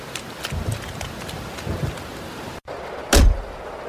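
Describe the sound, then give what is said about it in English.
Steady rain hisses and patters across the whole stretch, with scattered louder drops, then a brief cut to quiet and a sudden loud, deep thump-like burst near the end. “Noise patch of weather we're having, isn't it?”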